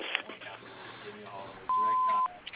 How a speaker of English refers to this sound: After the beep, leave your name, number, and address, and remember to speak slowly so we may return your phone call.